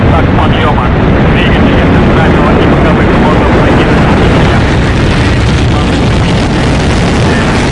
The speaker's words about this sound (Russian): Зажигание. Зажигание — это поджигают пары топлива. Пау! Зажглось. Предварительное. Промежуточное. Главное. Все, главное. Подъем. И пошла ракета сразу.